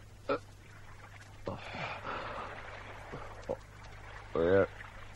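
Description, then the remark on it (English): Water laps and sloshes around a small boat in the North Sea, about 50 miles off the Danish coast, a soft swash of splashing with a few quick knocks, then a short breathy gasp from someone near the end. “We are in the North Sea.”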